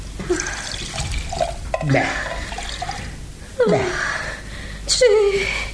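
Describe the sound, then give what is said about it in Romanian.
Water with a few drops of alcohol is poured in a few short, gurgling bursts, with rising liquid tones and scattered drips between pours, like a glass being filled bit by bit. “Stai să-ți dau puțin apă cu câteva picături de alcool.”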